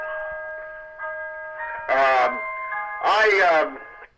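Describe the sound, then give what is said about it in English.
A clock chimes a run of sustained, ringing bell tones that step in one after another and hang in the air, while a person speaks over it in two brief bursts. “That was my clock.”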